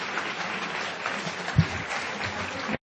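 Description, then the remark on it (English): Steady audience applause thanking author Kitty Kelly at a Free Library of Philadelphia author event, a dense crackle of many hands clapping at an even level for about three seconds before it cuts off abruptly, with one brief thump partway through. “Please join me in thanking Kitty Kelly.”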